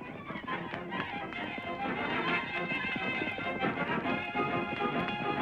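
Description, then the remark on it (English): Rapid hoofbeats pound steadily as two horses, Silver and Scout, ridden by the Lone Ranger and Tonto, gallop toward a fort, a dense rhythmic drumming over a busy, continuous background with no voices. “The Lone Ranger and Tonto finally arrived at the fort and brought their horses to a stop.”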